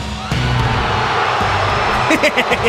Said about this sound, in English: Even edited, WWE's YouTube it perfectly exemplifies how loud the boos were for Roman Reigns. I gotta hear this one more time because it's one of my favorite things in the world. Roman Reigns being booed.